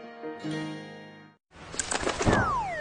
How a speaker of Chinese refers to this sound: 呀，小鸟撞玻璃上了。